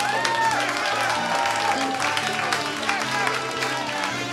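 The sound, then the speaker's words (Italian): Sustained audience applause as the audience applauds itself, dense overlapping clapping at a steady loudness, with voices calling out over it and a low hum underneath throughout the few seconds. “Grazie, fatevi un applauso.”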